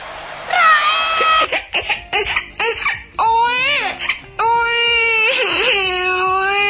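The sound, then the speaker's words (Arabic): A little girl cries loudly, in long wailing bursts broken by short sobbing catches, then rising into sustained, pitch-bending wails without pause. “البكية ظاهرة بتاع طفلة، ظاهرة تحب على بينكي وبرين”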